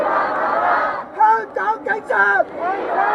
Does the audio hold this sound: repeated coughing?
no